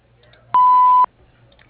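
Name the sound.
answering machine beep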